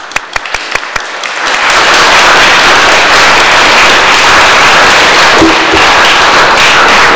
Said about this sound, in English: Church family, please give a round of applause